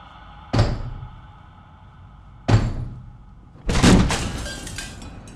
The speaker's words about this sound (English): I went back to the bedroom to try and hide, and then there's this knock, knock, knock.